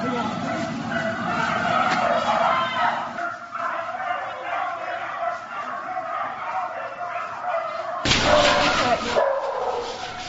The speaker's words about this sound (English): Ah, those poor animals. Maddening. Someone else, here. Poor dogs.